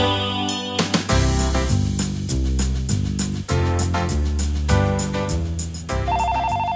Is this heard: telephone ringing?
yes